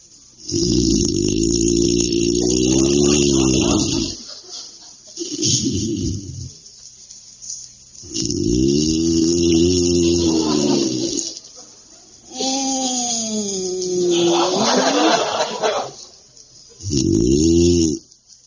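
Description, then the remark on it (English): A man snores loudly in bed, five long rasping breaths with short pauses between, some rising into a groaning, whistling pitch near the end; no one speaks. Husband John Bickerson from The Bickersons. “Bickerson lies tense and silent in the darkness, while poor husband John, insomniac extraordinary, engages in another grueling bout with the dread affliction that borders on madness, lethargica profundus.”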